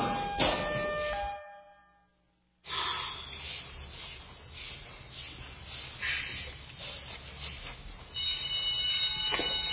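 alarm going off

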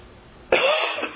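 cough

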